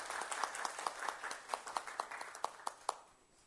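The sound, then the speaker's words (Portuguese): A round of applause from a crowd for poultry farmers, dense clapping with sharp individual claps standing out, steady for a few seconds and then thinning and fading toward the end. “A salva de palmas para os nossos avicultores.”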